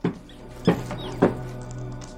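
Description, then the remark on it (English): Mice squeaking: faint, high, thin chirps scattered through a quiet stretch, with two sharper, louder squeaks about half a second apart. No one speaks. “She stops, hearing squeaking.”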